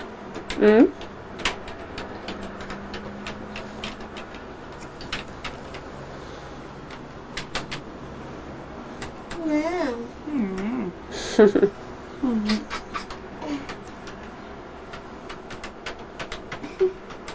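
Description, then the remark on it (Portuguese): Irregular bursts of light, sharp clicking from keys being tapped on a computer keyboard, continuing throughout, with a voice and a few brief thuds heard partway through. “Estás a escrever no computador,”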